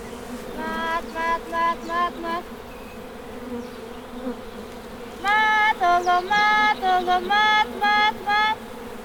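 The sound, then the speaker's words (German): A dense, steady drone of honey bees buzzing around a hive, with louder bursts of pulsing, higher-pitched tones rising over the hum in two rhythmic stretches. “Sie lässt also immer genug Honig im Bienenstock, sodass auch die Bienen gut weiterleben können.”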